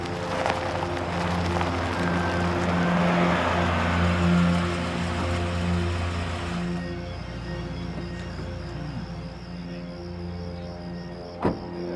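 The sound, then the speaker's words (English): A car engine hums steadily with a broad rushing noise as the car pulls into a driveway, easing off after several seconds as it settles, followed by a single short thump near the end. “As the officers knocked on the door, a car pulled into the driveway.”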